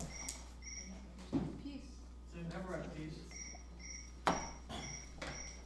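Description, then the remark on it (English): A mobile phone that someone forgot to switch off plays a ringtone of chirping crickets in short repeating trills, moderately loud, with a couple of sharp knocks and some muffled voices underneath. “What is that? Crickets. Is that a phone? Yes.”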